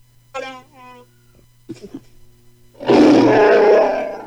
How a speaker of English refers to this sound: Ah, you can hear the lion. Lion, that sounded like a bear.